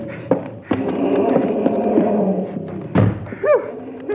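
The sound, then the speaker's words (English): The heavy back door of a bank slams shut and is locked with a few solid thuds and rattling knocks, then a final bang, followed by a brief wavering cry near the end. “Now I've locked the back door.”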